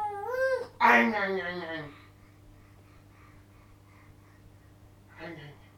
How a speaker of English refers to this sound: Are you having a good look? It's a meow meow. Is that a meow meow again? Geez, it's a meow meow.